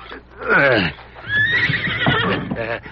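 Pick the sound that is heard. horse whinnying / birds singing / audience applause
horse whinnying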